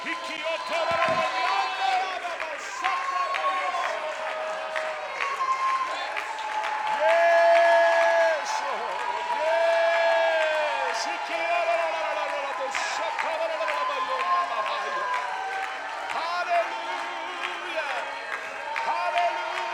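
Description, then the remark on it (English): A church audience shouts and cheers together, many voices overlapping in a loud, sustained roar with scattered clapping, swelling slightly in the middle and continuing without a break. “Somebody lift up your voice. Somebody shout.”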